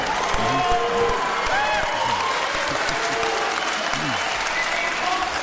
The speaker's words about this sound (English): When we applaud, we take away time from the candidates asking these very important questions, so please be respectful of the process.